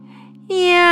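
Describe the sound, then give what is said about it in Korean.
A single drawn-out meow, voiced by a person imitating a spotted kitten as it is being sold by a taffy seller, rises loud halfway through after a quiet low hum, holding a steady, bright, nasal pitch to the end. “야옹,”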